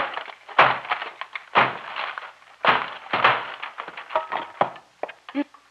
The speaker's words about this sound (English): We'll have to break down the door.